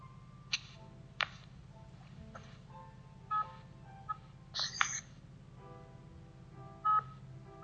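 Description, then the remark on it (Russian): A phone signals an incoming call with a scattered series of short electronic beeps and clicks over a steady low hum, fairly quiet, with no one talking. “Сейчас, секундочку, кто-то мне звонит просто и выбивает меня.”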